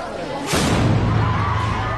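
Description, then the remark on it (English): A single sharp, booming blast from a smoke bomb thrown by a suspect at an outdoor speech venue in western Japan, where Prime Minister Fumio Kishida was due to speak on Saturday, bursts out of a crowd murmur, followed by a low, sustained rumble and a noisy wash of agitated voices. “An explosion is heard at a venue where Japanese Prime Minister Fumio Kishida was due to make a speech on Saturday.”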